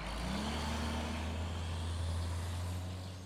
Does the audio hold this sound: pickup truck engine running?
yes